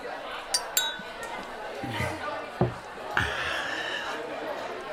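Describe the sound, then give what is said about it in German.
Several bright glass clinks ring out in quick succession as champagne glasses are touched together in a toast, over a steady murmur of voices and light background chatter. “Darf ich Sie ein Glas Champagner entladen?”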